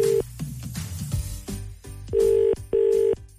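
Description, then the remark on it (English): A phone's ringback tone purrs through the line on an outgoing Christmas call being placed to a mother's phone, in a steady, clear double burst, two short tones with a brief gap, following the tail of an earlier ring and some quiet background noise. “It's ringing.”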